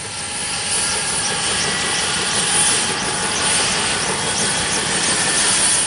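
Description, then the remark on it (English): The engines of a Cobra helicopter, started by two crew members in its only two seats, spool up into a loud, steady turbine roar with a high whine on top, continuous, with no voices. “hop into the only two seats on the Cobra and start the engines.”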